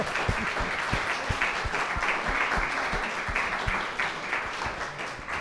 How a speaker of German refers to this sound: Auf jeden Fall ganz einen herzlichen Applaus